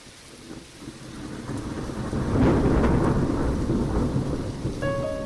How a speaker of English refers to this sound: Raining a lot worse now, as you can hear, and the wind's up. This is going to be loud.